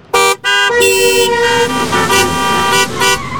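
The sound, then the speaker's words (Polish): Car horns honk loudly in traffic: two quick toots, then a longer blast, followed by more overlapping honks from other vehicles, with no voices. “Podróżując samochodem, będziesz słyszał wciąż to samo.”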